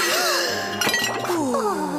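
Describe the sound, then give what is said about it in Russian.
In the animated show Luntik, dishes being washed in soapy foam clatter and clink in a quick burst, with two sharp, bright crashes close together near the middle as plates break, set against a steady tonal background. “Вы же могли всю посуду разбить!”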